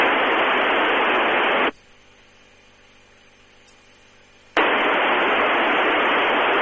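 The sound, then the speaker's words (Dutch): Loud, steady amateur radio hiss on the 2 metre band suddenly drops away as an unmodulated, empty carrier comes on, leaving about three seconds of near-silence with a faint low hum before the static rushes back. “En daarna hoorde ik nog iemand zonder modulatie, een lege draaggolf.”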